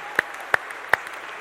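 Audience applause: a soft, steady patter of many hands, with three sharper claps standing out at a roughly even beat. No one speaks.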